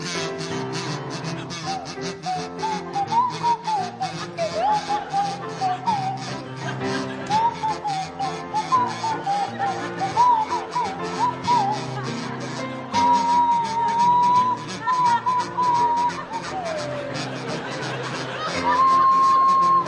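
A buzzy kazoo and a swanee whistle play a familiar tune together, the whistle sliding up and down between notes, loud and close over a dense musical backing for about twenty seconds.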